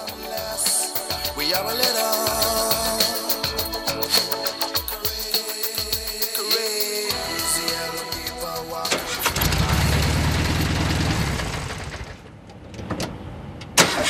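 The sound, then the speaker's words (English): A car's ignition key is turned and the starter cranks in a rapid, whirring rhythm for several seconds before the engine catches with a loud roar, revs briefly, then settles down, ending with a sharp click. “Mum turns the key as the car farts back to life.”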